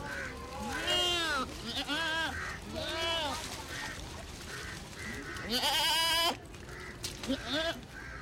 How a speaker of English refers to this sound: If a Muslim in Bombay offers you mutton, it's a fair bet they really mean goat. A goat's a very adaptable fellow, far more useful than a sheep. And especially here on the pavement outside Jula Maidan in Baikala.